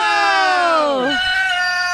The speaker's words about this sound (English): That's the chicken in the bag.